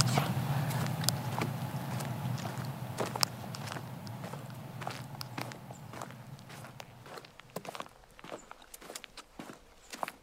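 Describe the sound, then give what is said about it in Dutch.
Steady footsteps of people walking in complete silence crunch clearly along a forest path through a tunnel of fallen and bent trees, with a low rumble early on that fades as the walking continues without any talking. “We lopen in complete stilte over het lievelingspaadje”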